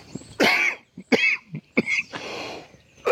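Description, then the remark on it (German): A person coughs repeatedly in harsh, irregular bursts, as if choking after swallowing the wrong way, with a longer raspy cough toward the end and brief gaps between fits. “Entschuldigung, ich bin total verschluckt.”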